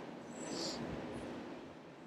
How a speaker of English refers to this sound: Hang in there. Train is still going.